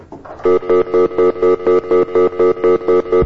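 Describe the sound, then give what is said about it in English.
A telephone line on a call-in rings over and over in quick, evenly spaced electronic pulses, a steady harmonic tone cutting on and off about four times a second, loud and alone with no talking. “This is the phone thing that never works. Let's try it.”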